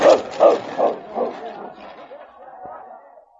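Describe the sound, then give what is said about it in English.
Sled dogs bark in a quick run of four or five loud, evenly spaced yelps, then the barking thins into softer, overlapping yips and whines that trail off. “The trail, now beaten down by the passage of the two dog teams, made easy traveling for the Mountie and King.”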